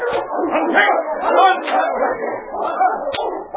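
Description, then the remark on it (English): A team of sled dogs pulling freight sleds over a hard-packed snow trail barks and yips excitedly in a dense, nonstop chorus, fairly loud, with occasional whimpers mixed into the din. “The trail was hard packed, and the dog teams fairly flew over the snow.”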